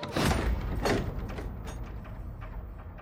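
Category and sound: household object, door being closed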